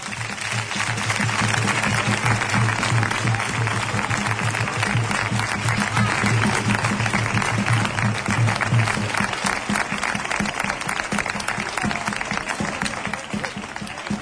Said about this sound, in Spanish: Muchísimas gracias y un fuerte aplauso